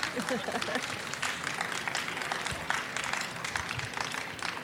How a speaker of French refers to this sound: applaudissez-les, bien sûr, excusez-moi.